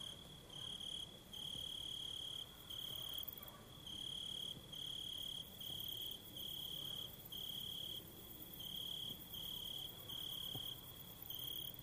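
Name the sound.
cicadas chirping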